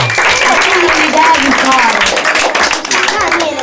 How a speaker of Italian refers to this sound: Facciamo un bel applauso ai dinamici e agli RC che ci hanno aiutato.